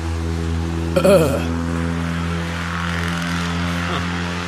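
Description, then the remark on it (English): A loud car engine drones steadily, punctuated by a sharp revving surge early on that climbs and falls before settling back into a heavy, continuous rumble. “Yeah, the obnoxiousness of cars.”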